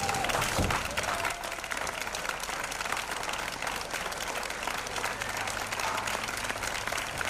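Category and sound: crowd, loud applause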